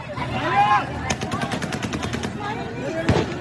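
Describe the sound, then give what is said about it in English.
A rapid burst of gunshots cracks out in a regular series, followed by a single louder shot, over a busy outdoor din of crowd noise and shouting voices, as people stream across an airport tarmac. “In another, gunshots rang out as people streamed across the tarmac.”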